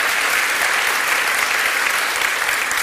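Steady, dense applause from an audience fills the whole stretch, a loud wash of many hands clapping at once with no pauses and no voices standing out.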